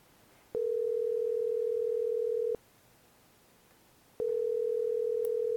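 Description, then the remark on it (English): Telephone ringback tone on an outgoing call to a scholarship winner: a steady, fairly loud electronic tone rings for about two seconds, pauses, then rings again, with no voices. “And now we get to call our winner live on the phone, and you get to listen.”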